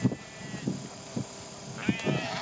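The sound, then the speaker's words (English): Sheep bleat in a handful of short, uneven calls spread across a few seconds, over a steady breezy outdoor hiss as the wind picks up. “So we shall leave the sheep.”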